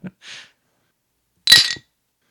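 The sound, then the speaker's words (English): A bright, ringing clink of beer glasses knocking together in a toast, including a glass of Avery 18 beer, fairly loud, preceded by a soft breathy exhale and otherwise quiet. “If you heard a third clink in there, it was just deceptive.”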